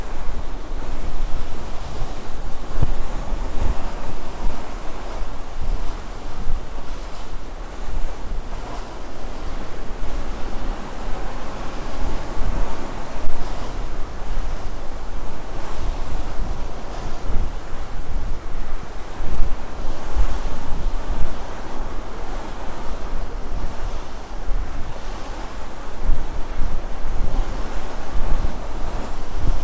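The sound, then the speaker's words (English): Rough sea waves wash heavily against a ship in a steady, loud roar, with gusting wind noise and surging swells throughout and no voices. “So at the moment, I don't really feel the boat moving, despite how rough the seas sound.”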